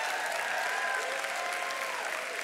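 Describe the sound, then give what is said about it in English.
An audience in a church claps steadily and densely after worship music, a continuous wash of many hands applauding together at moderate loudness, with faint tonal sounds and murmurs beneath it. “Come on, I know you can clap louder than that.”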